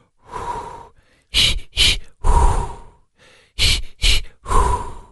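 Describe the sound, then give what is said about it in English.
A person demonstrates labor breathing techniques: a long exhale, two quick sharp breaths, another long exhale, then the pattern repeats. “We all need some breathing techniques because I'm going to play some audio from Chris Cuomo that...”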